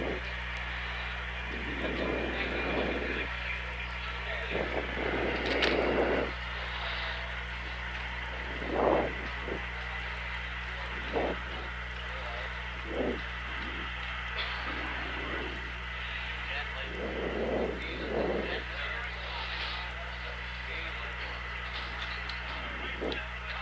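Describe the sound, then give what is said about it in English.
Navy helicopter number 66 settles onto the deck of the ship Yorktown in brisk, windy weather, its engine a steady, heavy low drone with intermittent whooshing bursts of wind and rotor wash, loud throughout. “Navy helicopter number 66 prepares to touch down on the deck of the Yorktown.”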